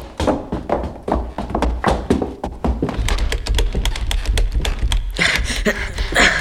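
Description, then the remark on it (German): A quick flurry of hard knocks and thuds as someone rattles and shoves at a door that has fallen shut and will not open again, keeping up steadily for several seconds, fairly loud with a low rumble underneath. “Verflixt. Sie ist zu. Sie muss doch wieder aufgehen. Sie geht aber nicht auf.”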